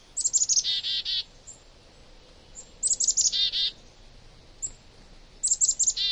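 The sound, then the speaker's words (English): Small songbirds of different species in a mixed winter flock call in three quick bursts of high, bright chirps and trills, each followed by a pause, with no talking and only a faint outdoor hush. “Many winter flocks include members of different species banding together to brave the cold.”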